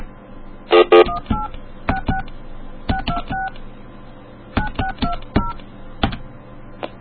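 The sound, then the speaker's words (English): A new AT&T cell phone's keypad dials out to AT&T Wireless, about a dozen short two-tone beeps in uneven clusters, clear over a soft background hum, with a brief louder clatter near the start. “Oh, you know what? I'm calling this.”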